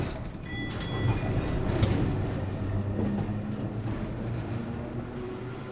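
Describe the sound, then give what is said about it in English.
A tram rolls along its rails with a steady low rumble and rattle, thin metallic squeals rising above it, with no one speaking. “Then he left the office and took a tram to Broadway.”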